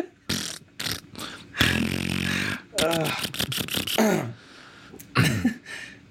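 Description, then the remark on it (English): In a video game, a prank weapon makes fart sounds each time it is shot: several loud, buzzy, fart-like blasts burst out in quick succession, one long low rumbling one in the middle, with voices and laughter mixed in between them. “Every time you shoot, it makes fart sounds out of your”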